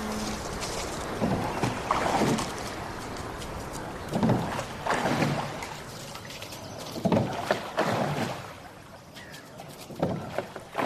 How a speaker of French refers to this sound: Lentement, non sans embarras, je donne mes premiers coups de rame.